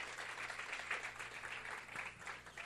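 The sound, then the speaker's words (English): An audience applauds steadily during a sermon, giving applause to the Lord, a dense wash of many hands clapping at once, sustained throughout. “Le un aplauso.”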